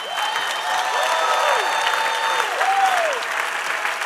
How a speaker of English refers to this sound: Can you give it up a real loud round of applause for my friend?